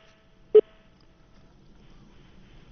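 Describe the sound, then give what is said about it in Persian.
A listener's phone call to a call-in program cuts out with one sharp, loud click, then only a faint, steady line hiss and low murmur remain. No one speaks. “متاسفانه تلفن شارژ خط شد.”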